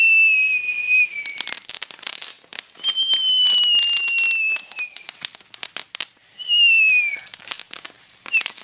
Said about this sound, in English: We watch the fireworks.